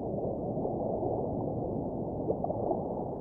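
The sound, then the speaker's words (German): Muffled underwater ambience heard just after someone dives beneath the water surface, with a steady low rumble and soft gurgling, a few faint bubbly tones rising briefly near the end; no voices. “Ich bin nun unter der Wasseroberfläche.”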